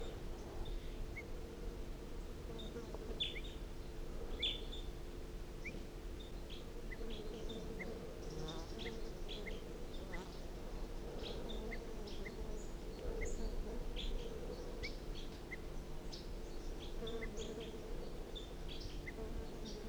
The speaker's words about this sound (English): So recording again, wild bird, alarm calls.